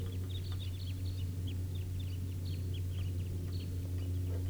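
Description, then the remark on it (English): Excited calls from a big wild bird flock of about 17 to 20 birds, including calls from bird 306, many short high-pitched chirps overlapping in quick irregular bursts above a steady low engine-like rumble, no speech. “Still some excitement calls from bird 306 here.”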